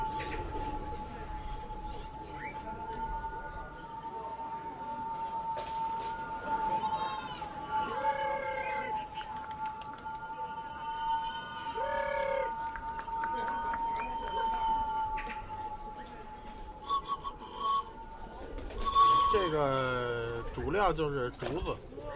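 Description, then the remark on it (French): Released pigeons fly overhead with bamboo whistles tied among their tail feathers with string, producing a steady, humming drone of several tones that swells and wavers, with sliding pitches near the end over faint outdoor background noise. “Quand je lâche les oiseaux, je me sens très fier parce que dans le ciel, ce sont mes oiseaux qui volent.”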